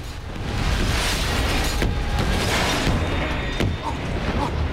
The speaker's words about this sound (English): and an almighty explosion rips the giant ship's engines apart.